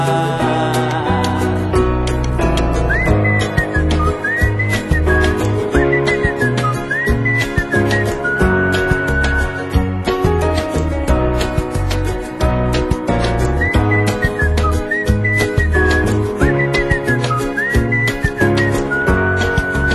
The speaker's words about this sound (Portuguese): E quem diria que esta alegria me pusesse logo, logo a assobiar.